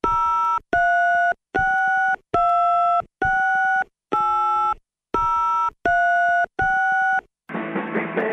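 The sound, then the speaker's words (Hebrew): A phone redials the office of the mayor of Bnei Brak, Rabbi Hanoch Zeibert, during a live radio broadcast: about nine evenly spaced, steady electronic tones of shifting pitch beep in quick succession, followed by a short burst of hissy line noise. No one speaks. “כן, אז תחייג עוד פעם.”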